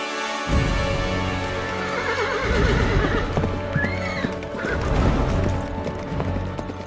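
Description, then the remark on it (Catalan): A horse whinnies loudly, its rising neigh rippling over a steady clip-clop of hooves that keeps trotting through the whole stretch. “Després d'haver omplert la bossa de diners i cavalcant en el millor cavall de l'estable reial, el príncep se'n va anar terres enllà”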